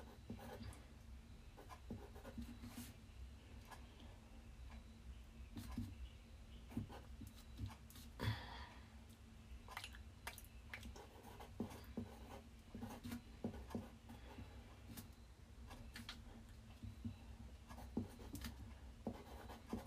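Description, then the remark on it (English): Someone licks paper: quiet, irregular wet rasps and rustles repeat over about twenty seconds above a faint steady hum, with no talking. “Yeah, if you randomly hear me make this noise, it's because I'm trying to lick the paper.”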